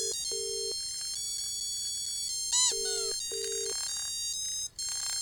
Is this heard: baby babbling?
no